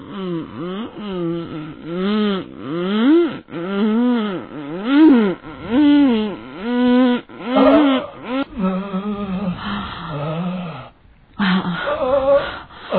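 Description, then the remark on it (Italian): A person pants heavily and rhythmically, each voiced breath rising and falling in pitch, about a dozen in quick succession, growing more ragged and breathy toward the end. “L'ansimata.”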